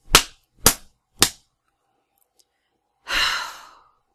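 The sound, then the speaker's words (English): Three sharp, loud slaps on a person's face land in quick, evenly spaced succession, leaving the face red, followed after a pause by a long, breathy sigh. “Oh, your face is really red where I slapped you.”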